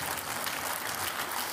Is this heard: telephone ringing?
no